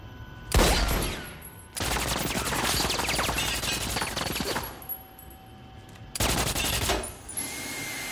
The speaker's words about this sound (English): Dooley trains his gun at shelves and crates, then ducks as he sees the lead criminal, who shoots. Dooley fires back, then cowers as the guy fires a barrage of shots.